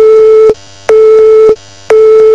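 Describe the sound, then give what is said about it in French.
A telephone busy signal: a loud, steady mid-pitched tone pulsing on and off in even beeps, about three of them separated by short silent gaps, with no voices. “Tiens, c'est drôle, c'est exactement le bruit que vous feriez si vous aviez raccroché.”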